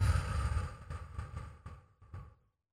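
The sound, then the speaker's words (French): A slow, breathy exhale through the mouth during a relaxation breathing exercise, soft, flowing steadily for a couple of seconds before tapering off into silence, with no talking. “Puis soufflez tout doucement par la bouche en imaginant expulser les tensions.”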